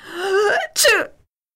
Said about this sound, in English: You've been sneezing all day long. Do you have a cold? No, hay fever season started this week.